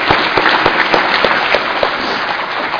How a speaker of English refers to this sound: Let's give them and everyone else a round of applause. The volunteers, the committee.